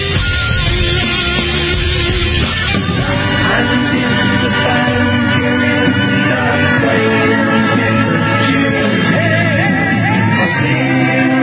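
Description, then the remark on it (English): A large outdoor crowd shouts, yells and whoops continuously during a total solar eclipse as the moon covers the sun, a dense wall of many overlapping voices at steady loudness with individual cries rising out of the roar. “What was a daylight crowd here has now turned into, it looks like, an evening concert.”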